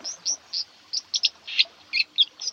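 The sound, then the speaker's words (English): A white-throated dipper gives a rapid series of sharp, high-pitched calls, about ten short zips in irregular bursts. The calls are clear, with no talking. “These are delightful little birds and an essential part of our countryside. The dipper, the escocky, and the water crow.”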